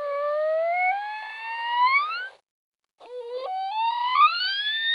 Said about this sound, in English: Researchers recorded the signature whistles of 19 mother dolphins in Florida when accompanied by their young offspring and when swimming alone or with other adults. The sounds were recorded with special microphones over a period of years